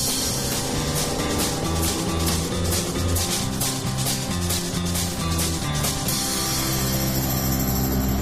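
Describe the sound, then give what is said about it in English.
A small motorboat engine runs steadily as the boat heads deep into the Atchafalaya Swamp, North America's largest swamp, a loud low droning hum with a rhythmic, pulsing rattle on top, continuing without pause and with no voices. “When you're riding in a little boat heading deep into North America's largest swamp, it really does feel like the end of the world.”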